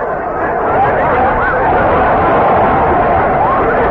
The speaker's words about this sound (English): The crowd's going mad.